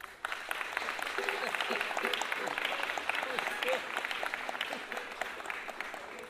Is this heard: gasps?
no